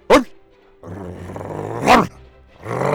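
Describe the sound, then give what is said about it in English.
A dog named Apollo barks loudly twice at its reflection in a stream, with a low rumbling growl filling the gap between the two sharp barks and continuing after. “Apollo finally gave the reflection a good loud bark.”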